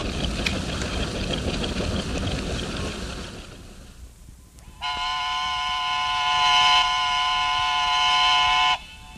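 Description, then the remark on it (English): A steam threshing engine churns with a dense, rumbling clatter of machinery and the slapping big leather belt running from the engine back to the separator for several seconds, then a loud, sustained steam whistle blows for about four seconds at noon. “slap, slap of the big leather belt that ran from the engine back to the separator.”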